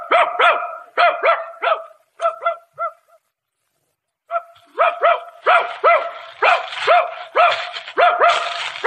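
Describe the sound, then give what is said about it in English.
A dog barks excitedly in rapid, repeated bursts as it sets out to hunt rabbits, loud, pausing briefly before launching into another eager run of barks. “Okay, suppose I get my gun and my dog and we'll look for a couple of rabbits, huh?”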